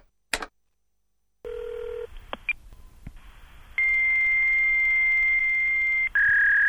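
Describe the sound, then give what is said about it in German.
A click, then a hissing phone line with a short low beep and a few blips as a dialed phone number reaches a fax machine, followed by a long, steady, high-pitched fax answering whistle that shifts pitch slightly near the end. “Nein, da ist ein Fax dran. Der typische Pfeifton.”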